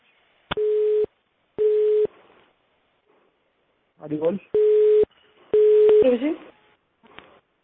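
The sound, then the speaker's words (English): A telephone call-on-hold beep: four steady, mid-pitched tones, each about half a second long, repeating at an uneven pace, with brief snatches of a voice slipping in between the later beeps. “So I think someone has what happened on hold, and that beep sound is coming now.”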